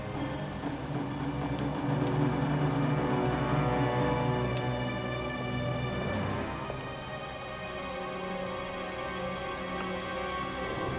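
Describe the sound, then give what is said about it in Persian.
A car engine idles steadily, a constant low rumble with a faint mechanical whine above it and a slight dip midway. No one speaks. “فقط ماشین روشنه ها.”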